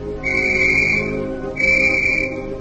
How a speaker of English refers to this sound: A minute later, B-9 blew a police whistle outside the flower shop.